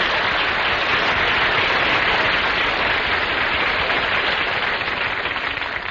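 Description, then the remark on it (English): A studio audience gives announcer Don Wilson a big hand, applauding steadily for the full six seconds, a loud, dense wash of clapping with no voices over it, easing off only slightly at the very end. “I want to thank you for giving Don that big hand”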